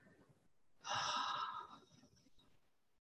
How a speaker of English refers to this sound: So leaving a long, slow exhale down into the earth, and I'll do it out loud.